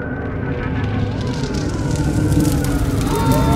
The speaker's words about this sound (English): I woke up when I heard the sirens.